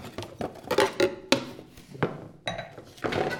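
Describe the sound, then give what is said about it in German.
Four thin-rimmed wine glasses are set down on a hard surface several times, with sharp clinks and knocks coming in an irregular sequence, fairly clear. “So, vier Gläser. Und in diese vier Gläser, ich habe jetzt Weingläser genommen, denn die haben einen ganz dünnen Rand.”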